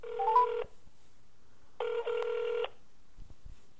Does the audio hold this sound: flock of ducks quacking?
no